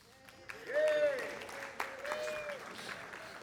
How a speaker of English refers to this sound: I'm not sure why you're clapping, but clearly it's not about me.